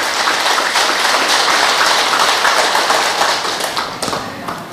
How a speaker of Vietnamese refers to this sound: Cho một tràng vỗ tay thật lớn để tán dương sự hiện diện.